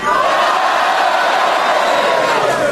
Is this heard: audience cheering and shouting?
yes